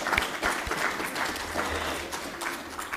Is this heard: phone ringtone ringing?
no